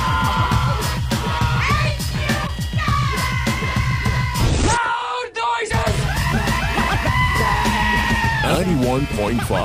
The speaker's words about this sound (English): I don't know what we're yelling about!